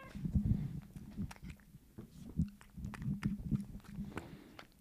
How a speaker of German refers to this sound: Schmatzen klingt schon mal vielversprechend. Ich hab, du bist halb im Frame leider nur. Oder? Katzenschmatz ASMR ist vielleicht besser als Menschenschmatz ASMR.